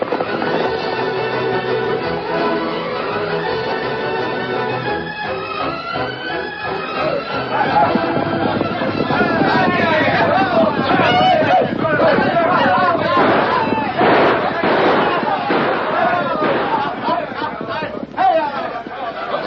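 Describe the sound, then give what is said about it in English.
A rowdy crowd of working men shouts and clamors continuously, with sharp gunshots cracking through the din, in a nameless town of the Old West, growing busier and louder toward the end. “Day and night, the rattle of gunshots banged away.”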